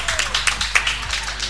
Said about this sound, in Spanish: Y ahora, vuestros ojos atentos a la cancha de baloncesto, ya que tenemos a más de un profesor jugando en el partido con los alumnos. ¡Un aplauso para ellos!